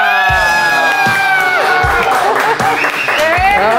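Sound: audience applause and cheering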